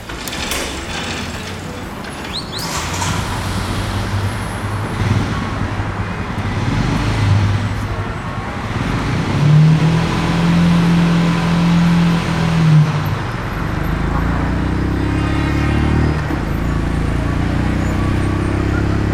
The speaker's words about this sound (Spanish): Empezamos en la bonita Ciudad de México y esta moto que escuchas es una Continental GT 650, una de nuestras twins. Forma parte de la tercera generación de Café Racer de Royal Enfield, pero esta vez con un motor mucho más potente que sus predecesoras.